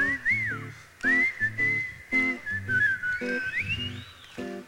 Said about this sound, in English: Whistle with me. Come on, whistle.